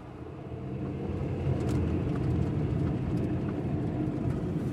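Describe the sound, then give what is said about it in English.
A truck engine rumbles steadily, a deep low drone that swells slightly as the truck drives up an on-ramp and pulls over to the side of the road, with no voices present. “We drove up and Mark pulled to the side.”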